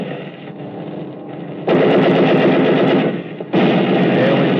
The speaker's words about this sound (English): I looked over my shoulder and watched him checking his gun sight and firing the lower rear turret.